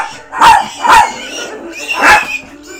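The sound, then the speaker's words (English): A dog-squid-human animal chimera barks three times: two quick barks, a short pause, then a third. The barks are loud and mid-pitched, with no voices over them. “It's a dog squid human animal chimera.”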